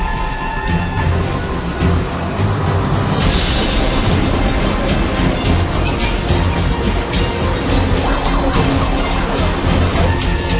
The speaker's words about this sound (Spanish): Cientos de autos intentan avanzar a través de la vía auxiliar que está al costado de Evitamiento. El desorden continúa 6 cuadras arriba.